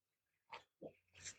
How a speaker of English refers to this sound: All right. Taking another sip of my coffee.